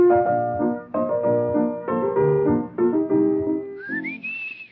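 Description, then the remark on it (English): The waltz Tales from the Vienna Woods by Johann Strauss is whistled, with sustained, steady notes moving in a lively three-beat rhythm before ending in a bright, rising whistled glide. It is fairly loud, with no talking. “I didn't sing it. I whistled it. The Tales of Vienna Woods.”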